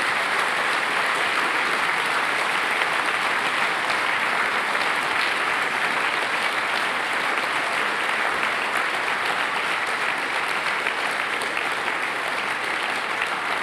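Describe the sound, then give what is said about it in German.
Sustained applause from a large audience for all the performers, a dense, steady wash of clapping that holds at an even, fairly loud level for the whole stretch with no voices standing out. “Wenn Sie mögen, können Sie jetzt für alle Mitwirkenden einen dicken Applaus geben.”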